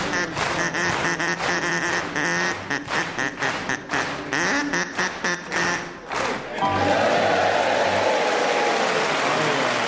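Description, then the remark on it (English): An audience claps along in a steady, rhythmic beat over honking, quacking duck sounds playing Old MacDonald Had a Farm, then breaks into loud, sustained applause for the last few seconds. “And of course the audience clapping along very nicely.”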